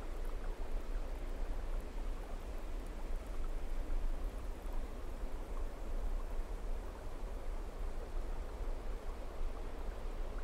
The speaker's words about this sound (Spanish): Comienzas a escuchar a lo lejos un sonido de agua que cae. Te vas acercando más y más. Y de lo alto de una montaña puedes apreciar una cascada. Ahora la escuchas fuerte. Es un sonido precioso.